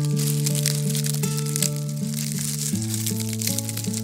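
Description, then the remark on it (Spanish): Fallen autumn leaves crunch and rustle in a steady crackling, with sustained musical tones playing underneath throughout. “Todos los árboles en el otoño nos regalaron muchas hojas. Escuchen cómo suenan.”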